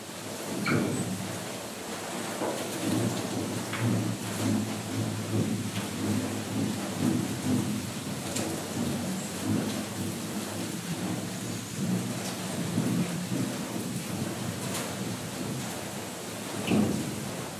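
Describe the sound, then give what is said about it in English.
The steel and wooden water-powered wheel of Tingler's Mill, a restored grist mill dating from the 1860s, churns with a steady low grinding rumble and wavering droning tones, over continuous rushing, splashing water and scattered drips and knocks, with no voices. “If you guessed a water-powered mill wheel, you're right.”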